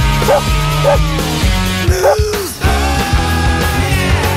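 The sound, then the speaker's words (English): A bouncy radio jingle for a dog news feature, with a dog barking in time to the beat, three or four short, loud barks punctuating the tune, and a drawn-out bark-like howl midway. No one speaks. “It's dog news.”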